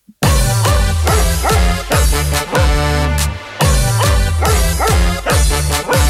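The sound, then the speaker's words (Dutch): A Keeshond dog barks loudly and rhythmically, the barks repeating in a steady pattern about twice a second over a dense, continuous backing sound with no one talking. “Mijn hond, dat is een Keeshond.”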